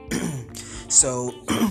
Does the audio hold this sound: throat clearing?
yes